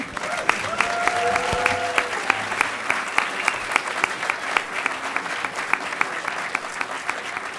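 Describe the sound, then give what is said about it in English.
A crowd applauds steadily, many hands clapping in a dense, sustained patter with sharp individual claps standing out, plus a brief tonal whistle or cheer early on. “Do not applaud for me. Applaud for yourself and your potential.”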